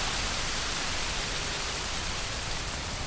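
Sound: heavy rain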